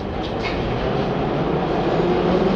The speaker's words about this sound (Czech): Kolem nás teď procházejí straničtí a vládní představitelé k vagonu metra, který stojí připraven zde na této koleji v té nádherné mramorové hale označené nápisem Kačerov. Vlak se rozjíždí.